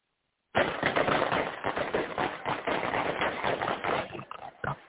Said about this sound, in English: People are jumping down to the street. They're trying to get away from the gunfire. Those Victorian people are jumping down, trying not to get hit.